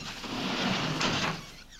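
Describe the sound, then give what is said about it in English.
A door slides open with a steady, broad whooshing hiss that swells briefly midway, then tapers off, as Green hurries to the door and leaves. No one speaks. “Green hurries to the door and leaves.”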